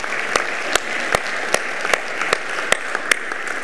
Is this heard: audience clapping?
yes